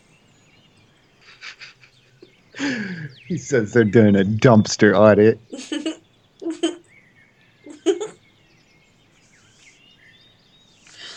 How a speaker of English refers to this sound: It was the birds.